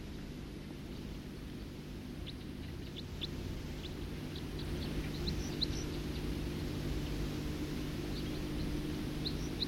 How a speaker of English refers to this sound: Flight call of a songster. Stop. Flight call of a songster again.